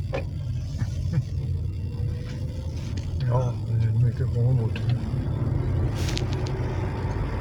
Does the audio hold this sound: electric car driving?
yes